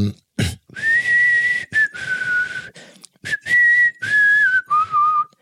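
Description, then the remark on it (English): A person whistles a slow, wavering melody, held notes gliding between pitches in several phrases, with breathy noise and brief pauses between them. “you got …. It's a classic whistle.”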